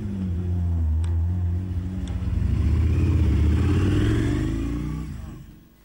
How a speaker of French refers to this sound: On va avoir des beaux bruits de voiture, alors. Ouais, c'est bien, les voitures.